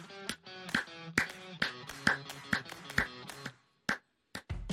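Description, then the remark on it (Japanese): A steady series of about ten sharp hand claps at an even, brisk tempo, demonstrating the rhythm for a children's swimming flutter kick in water, with a faint tonal hum underneath; the clapping pauses briefly before a final couple of claps. “あとですね、大きくキックしすぎちゃって今度水の抵抗慣れすぎちゃってる子は、今度は拍手みたいな形でちょっとこのリズムでキックしてみてね、水の中でキックしてみてねということで、こんな感じで拍手します。”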